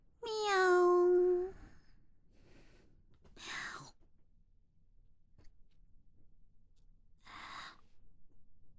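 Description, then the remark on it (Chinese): A person imitates a cat during an audition for a director: first a drawn-out, meow-like vocal tone, then two short, breathy mouth sounds mimicking a cat licking things, spaced several seconds apart. “导演，我连猫咪舔东西的样子都学出来了，这回应该能过了吧？”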